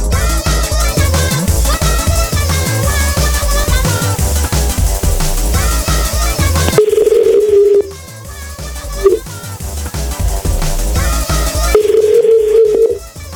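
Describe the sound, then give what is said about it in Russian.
A phone number is dialed, followed by long, steady ringing tones with a pause between them, heard over a busy musical background with no one speaking. “Я пока звоню”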